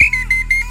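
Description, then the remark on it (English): A loud, shrill whistle blast, held steady with a slight trill that pulses about three times over a brief burst, clear with no voices. “I need a new whistle.”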